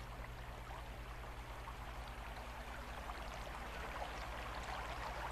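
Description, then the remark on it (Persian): A steady rush of flowing river water runs continuously, a dense, even wash of sound with a faint low hum beneath it and no voices; a river that does not freeze during the year, in a cold season. “این حیوان ها آموختند که این رودخانه در طول سال یخ نمی زند.”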